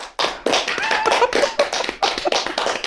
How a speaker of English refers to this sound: I think she deserves a round of applause for that intro.